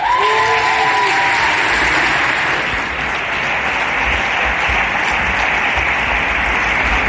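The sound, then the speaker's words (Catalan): Loud, sustained applause from a large crowd at the 26th Premis de la Música Catalana, welcoming two stars of the 3CAT series Jo Mai Mai: a dense steady wash of clapping that holds at full strength for about seven seconds, with a brief whistle-like tone near the start. “Escolta, va, rebem amb un fort aplaudiment a dos dels protagonistes de la popular sèrie del 3CAT, Jo Mai Mai, Clàudia Riera i Berta Rabascall.”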